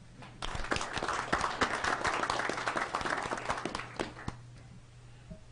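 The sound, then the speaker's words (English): A crowd applauds steadily for several seconds, a dense patter of many hands, then thinning to a few last claps near the end. “Okay, you guys have already done your clapping, so that's great.”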